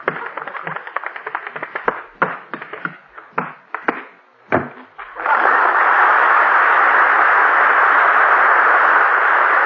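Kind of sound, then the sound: household object, door slamming shut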